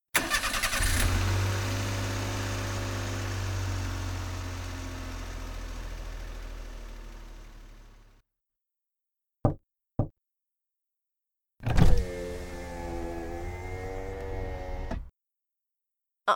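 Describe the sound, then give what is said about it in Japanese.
A car engine cranks and catches, then idles with a steady low rumble for several seconds before cutting off; two sharp knocks follow, then the engine rumbles again briefly. The car is being started to drive home after work. “ええ、仕事終わりで今から車で帰るところです。”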